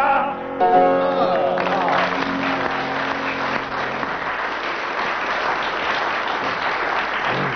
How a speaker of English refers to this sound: Well, the audience applauded for 25 seconds, which gains you 4 marks.